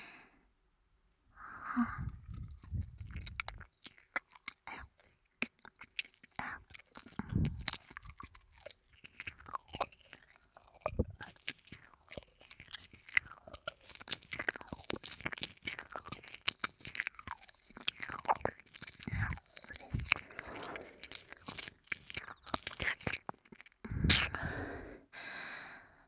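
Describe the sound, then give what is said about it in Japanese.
Wet ear-licking mouth sounds, the licking done a little more strongly: a steady stream of sticky clicks, smacks and slurps with occasional heavier thumps, fairly soft, with no talking and a faint steady high whine underneath. “なので、もう少し強めに舐めてみますね。”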